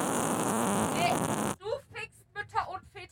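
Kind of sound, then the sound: human body sound, fart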